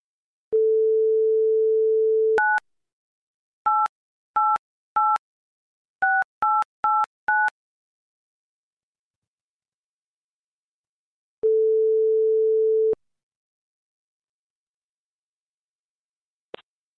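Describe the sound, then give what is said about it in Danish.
A steady telephone dial tone, then a quick run of keypad dialing beeps, followed after a pause by a single long ringing tone and a soft click as the line picks up. “jeg ringer, fordi vi er i gang med sagen Folket mod Museer.”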